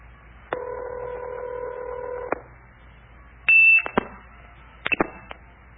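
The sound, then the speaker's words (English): A steady telephone line tone hums, then a loud, piercing blue box tone bursts briefly and gives way to sharp clicking kerchinks as the line resets, with a couple more clicks after. “This is just, remember, right after the guy hits 2600 hertz on his blue box, you hear this kerchink.”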